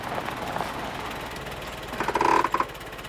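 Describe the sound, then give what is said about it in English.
A car drives up to a country cottage, its engine rumbling steadily at a low, even pitch, then a brief high-pitched squealing tone cuts in near the end before the motor settles back to its idle hum. “Barry drives up in his car.”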